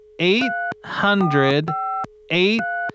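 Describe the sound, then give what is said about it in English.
Three short electronic keypad beeps as a phone number is dialed, each a steady two-note tone, alternating with wordless vocal sounds and a faint constant hum underneath. “All right, just gonna dial that number.”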